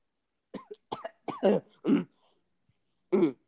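A series of short, rough coughs and throat-clearing bursts after yelling: three quick ones, then two heavier hacks, a pause, and one final cough. Fairly loud, with no talking.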